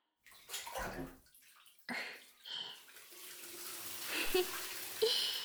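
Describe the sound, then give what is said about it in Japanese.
Water is poured from a bath bucket, used instead of the shower to rinse someone off during a bath, in two splashy gushes, followed by a steady, softer run of trickling and dripping water. No one speaks. “今日はシャワーじゃなくて、このお風呂の桶を使って。”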